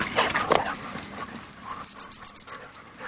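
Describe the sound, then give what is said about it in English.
A springer spaniel detection dog, brought to a Rio Tinto mine to locate yellow crazy ants, gives a couple of short barks and whimpers at the start. A rapid run of six high, piercing beeps follows, then quiet. “brought Jet, the Springer Spaniel, up here to help us locate some yellow crazy ants”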